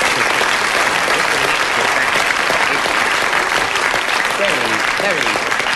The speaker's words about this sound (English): You've not only got a round of applause.